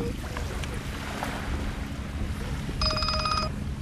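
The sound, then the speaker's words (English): A cell phone rings with a short, bright electronic ringtone near the end, cutting through a steady rumble of boat engine, wind and water noise, on an uninhabited island. “And then there's this reminder of civilization. Hold on.”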